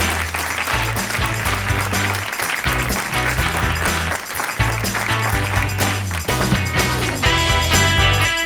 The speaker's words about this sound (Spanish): Fuerte aplauso para los dos, claro que sí.